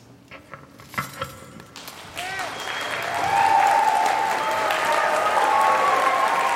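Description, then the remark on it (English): A school audience bursts into applause and cheering for a student on stage, starting with a few scattered claps and swelling into sustained clapping with whistles and shouts that stay loud to the end. “Felix stood still as cheers erupted around him.”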